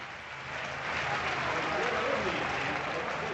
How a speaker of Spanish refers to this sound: Segunda falta personal, ojo a la ovación, escuchen, ovación a Lucas Nogueira.